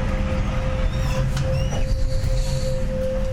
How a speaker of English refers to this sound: Another train passes on a parallel track, going slightly faster. It feels for a moment like Stacy's train stops or even starts moving backwards.